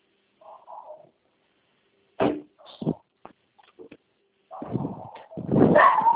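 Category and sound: animal, dog barking and whimpering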